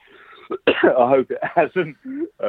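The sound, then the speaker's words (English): A few fairly loud bursts of throat clearing and coughing in quick succession, rough and raspy with a voiced, gravelly edge between the short breaths. “Sorry, I've had this terrible cough.”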